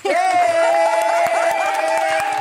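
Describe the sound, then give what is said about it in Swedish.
A few hosts cheer and whoop loudly while clapping along, applauding themselves, a short burst of enthusiastic applause lasting a couple of seconds. “Och ni är jättecringe, jag applåderar oss med själva.”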